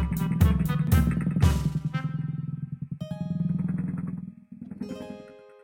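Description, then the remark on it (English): A small motor scooter revs up with a few sharp bursts, then hums steadily as it rides off, its buzzing engine note holding fairly loud before easing slightly near the end. “Then Little Red gave Grammy and Wolfie a hug goodbye, and she rode her scooter all the way home.”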